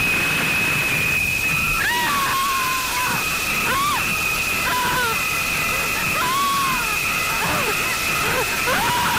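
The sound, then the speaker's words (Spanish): Shower water runs steadily throughout as a dense hiss, while shrill, sliding screech-like tones cut in repeatedly over it, recalling the shower of the film Psycho. “Con Psicosis aprendimos que la ducha no es un lugar seguro.”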